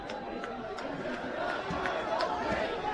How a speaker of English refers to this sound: Got a great student section. They're all still here cheering on their Cards.